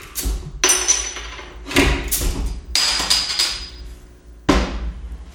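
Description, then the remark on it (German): Drinks being refilled: a few heavy knocks and clinks of bottles and glasses set down, each with a bright ringing edge, spaced out over a few seconds without talk. “Mach mal hier noch Nachschub.”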